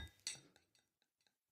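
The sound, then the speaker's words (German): Glassware clinks while a Kilkenny is poured into a glass: one louder bright knock followed by four or five lighter, ringing taps that fade out, with no voices. “Ja, das funktioniert und das ist auch der Moment, super, wo ich mir mein Getränk endlich einschenke.”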